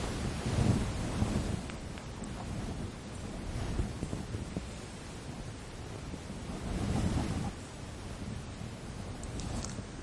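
Steady evening rain falls in a dense, continuous hiss, with low rumbling swells rising and easing, as if gusts drive the downpour. No voices are present.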